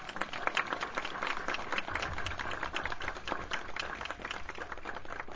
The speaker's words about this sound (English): They have been sponsoring these concerts and supporting community events for over 15 years. Can I have a round of applause for them?